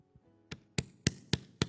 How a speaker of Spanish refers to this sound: ¿Quién tocó la puerta? La policía.